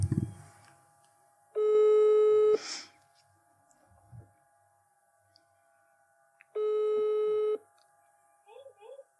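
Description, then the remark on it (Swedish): Two long steady ringback tones, each about a second, sound clearly with a pause between them, like a phone ringing on the line while a call is placed; brief faint noises in between. “Nu ringer vi Elin Woody.”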